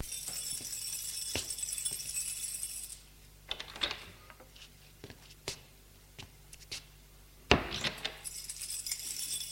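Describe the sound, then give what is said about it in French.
Keys jangle and a lock clicks in a series of sharp metallic snaps, ending in one loud clack as an apartment door opens on the sixth, top floor of a small building, with a steady hiss at the start and end. “Martine ouvre la porte de l'appartement.”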